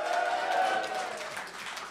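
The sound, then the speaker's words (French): A television show audience in the hall applauds when asked whether members of the Mimes et des Rais group are present, a dense, steady wash of clapping that lasts the whole moment, with a brief high whistle or whoop riding over it at the start. “Par applaudissement, est-ce qu'on a des gens dans le groupe des Mimes et des Rais dans la salle?”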